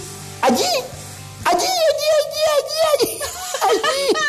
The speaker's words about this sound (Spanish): Es un perrito.